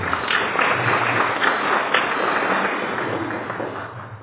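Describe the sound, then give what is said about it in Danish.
A steady wash of clapping from a group for the author of the first article in the 2020 yearbook, dense and continuous for a few seconds, holding a fairly even level before easing off slightly at the end. “Og han bestemmer også et klap.”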